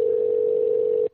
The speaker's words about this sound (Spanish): Lo estoy llamando por teléfono, por Skype. Vamos a ver si lo puedo enganchar en el celular.